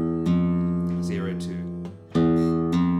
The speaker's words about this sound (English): What the hammer on makes you do is it makes the fretting rhythmical. Then whether or not you pluck the second note doesn't make much difference. You're still putting the finger on at exactly the same time.